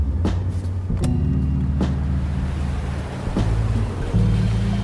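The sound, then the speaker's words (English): A car engine drones steadily while driving back to a hotel, its low hum stepping up and down in pitch a few times over a constant road rumble, with a few faint clicks and no voices. “Eventually, I started my car and headed back to my hotel.”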